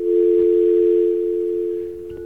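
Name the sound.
telephone dial tone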